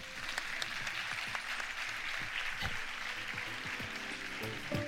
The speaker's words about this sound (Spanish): e un aplauso para eles, por favor.